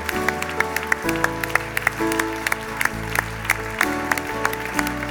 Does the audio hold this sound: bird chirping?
no